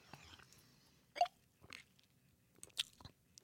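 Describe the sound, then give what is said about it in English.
Someone drinks Green River Zesty Lime Soda from Sprecher's: a faint fizzy hiss at first, then a few separate wet gulps and swallowing clicks spaced irregularly, with no talking. “Here is what's called Green River Zesty Lime Soda from Sprecher's.”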